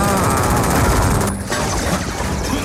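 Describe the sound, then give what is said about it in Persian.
A loud, dense volley of gunfire aimed at a bat fills the whole stretch, shots blurring into a continuous crackling roar with a brief lull partway through before the barrage resumes. “خفاش شلیک کنید، بزنیدش.”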